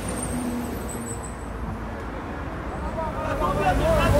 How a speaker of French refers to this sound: Il y a un monsieur qui apporte, dans un camion poubelle, qui apporte des déchets.